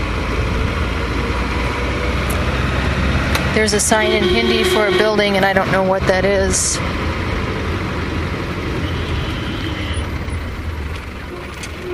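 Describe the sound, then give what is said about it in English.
Dense street traffic rumbles steadily with engines of buses and motorcycles as cars weave in and out. Midway, a burst of overlapping car horns sounds for a few seconds. A person talks over the noise from inside a vehicle that is weaving through traffic and passing people on motorbikes. “You've got your buses and motorcycles, and cars are weaving in and out of that. Horns beep.”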